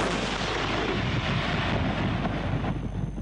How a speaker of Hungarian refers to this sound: Ez az izraeli harckocsi itt Metulla városka fölött egy domboldalról a szemközti libanoni települést, Kafr Killát támadja.